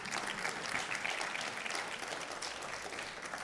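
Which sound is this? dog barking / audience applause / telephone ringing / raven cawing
audience applause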